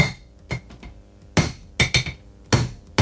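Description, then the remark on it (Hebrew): Repeated hard knocks on a closed glass bottle during a live broadcast: about seven sharp, ringing strikes at an uneven pace, some landing in quick pairs, with no shattering. The bottle stays intact. “הנה הוא שובר בקבוק. שומעים את זה.”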